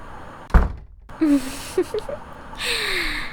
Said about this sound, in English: What are you doing? Why are you closing the door?